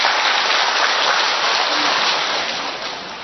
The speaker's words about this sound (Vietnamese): Ta gặp gỡ mảnh đời thứ hai cho một tràng pháo tay thưa anh chị em.